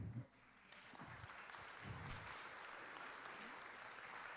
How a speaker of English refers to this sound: You really don't have to applaud every time I get up here.